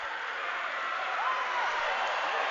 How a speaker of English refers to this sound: Everyone's pulled back, and now the crowd is into it, and you've got both sides yelling at each other here in Shattuck,